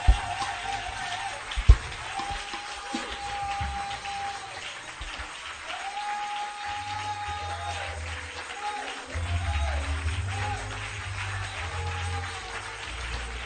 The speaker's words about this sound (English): Clap your hands again. Give him glory.